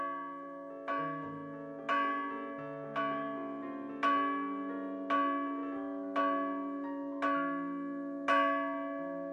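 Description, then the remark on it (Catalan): A church bell tolls midnight in a slow, steady series of strikes about a second apart, each resonant ring overlapping the next, with no voices present. “Un cop més, l'espectre, abans d'esvair-se el toc de campanes de mitjanit, li va recordar alguna de les seves paraules.”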